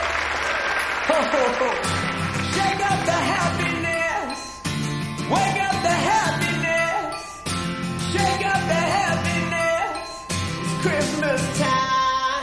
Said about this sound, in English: The audience claps and waves their arms.